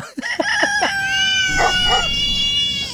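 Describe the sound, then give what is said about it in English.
In a demo mixing dog, rooster and cat sounds, a loud, drawn-out rooster crow rings out after a quick run of short, yelping bursts, the sounds overlapping as if mixed together, with no talking. “Oh, we did a big finish, which was dog and a rooster and a cat.”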